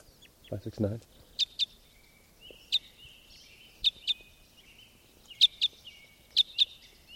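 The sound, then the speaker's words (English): A new type 5 bird gives flight calls: short, sharp, high chirps, mostly in quick pairs, repeated about every second. A brief low murmur of voice comes at the start. “Here comes a type 5. This is a new bird. In flight, one call.”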